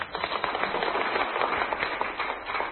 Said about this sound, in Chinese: 好，谢谢你。好，掌声鼓励。